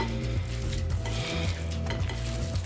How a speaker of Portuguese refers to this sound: Essa farinha já vai ajudar a reter um pouco da água, porque eu vou dar uma fritadinha nele de leve.